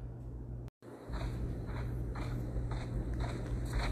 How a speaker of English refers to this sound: she could hear her own footsteps in the sands.